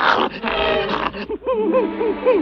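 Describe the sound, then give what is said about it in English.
A bloodhound asleep on a kitchen floor, twitching as it dreams, makes dreamy noises: a burst of muffled yips and snuffles, then a string of wavering, rising-and-falling whimpers over about two seconds. “The dog twitches in his dreams.”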